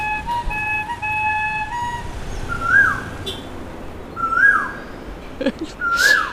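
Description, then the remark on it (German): Steady whistled tones at first, then a morning bird call in India repeats three times at even intervals, each a short rising-and-falling note, clear over a constant noisy background. “Die ist dem Vogel angepasst, aber. Nicht ganz, der Vogel ist höher.”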